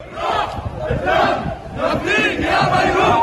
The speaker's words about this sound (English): With brooms on their shoulders, crowds chanted as they marched to work. We'll pay with our blood and soul for the sake of Beirut, they shout.